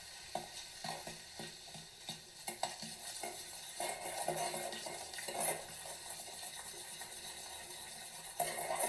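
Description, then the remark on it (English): A baking soda, salt and vinegar mix for scrubbing a shower being stirred, with steady scraping and clinks of a utensil against a container over a soft fizzing hiss, fairly quiet throughout with no talking. “she's pouring salt in with the baking soda. And now she's gonna pour some vinegar in.”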